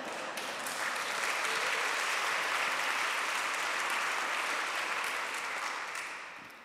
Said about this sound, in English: You need to applaud your pastor this evening.